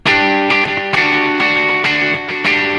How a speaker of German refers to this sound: Ja, oder wir gehen mal auf ein Echoplex, das hat noch mehr Höhen.